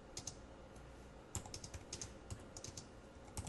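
Rapid, irregular clicks of someone typing a for loop on a computer keyboard, fairly quiet, with small bursts of keystrokes and a few sharper taps over a low background hum.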